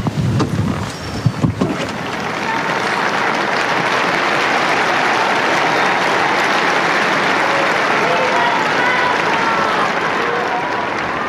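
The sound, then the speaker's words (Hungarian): A large crowd bursts into sustained applause after Pope Francis's blessing, a dense steady wash of clapping that holds loud and even for about ten seconds after a brief burst of voices at the start. “És ma is tapssal köszönik meg Ferenc pápa áldását és az ő tanítását.”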